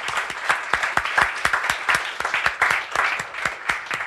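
An audience breaks into a round of applause for the show's producers, many hands clapping in a dense, steady patter with sharp individual claps standing out, sustained at a fairly loud level throughout.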